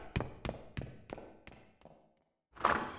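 Six quick, evenly spaced footsteps of soldiers thud. A short silence follows, then a louder, fuller burst of noise. No one speaks.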